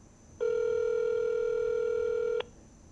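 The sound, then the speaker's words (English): A cell phone call's ringing tone: one steady, buzzy electronic tone lasting about two seconds, fairly loud and clear, then silence. No one speaks. “We're calling it now. I'm calling on the cell.”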